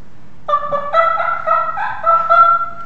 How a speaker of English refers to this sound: With the court's permission, I will demonstrate briefly how it works to make an elk call. Is that what an elk sounds like? That's an elk. That's a cow elk sound, and the turkeys now are gobbling.